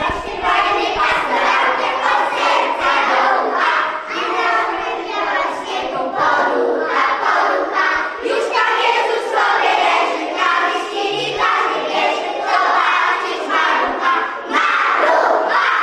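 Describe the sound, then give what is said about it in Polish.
A loud, steady din of many children's voices from the Leśnica kindergarten chattering and shouting at once fills the corridor of a municipal office as they decorate a Christmas tree, a continuous crowd hubbub with no single voice standing out. “My jako urząd szykujemy drzewko, ale tą największą atrakcją i myślę ten szum na korytarzu, który się co roku pojawia, to właśnie zapewniają nam dzieci z leśnickiego przedszkola i to one z pełnym zaangażowaniem, energią wieszają pompki, przystrajają”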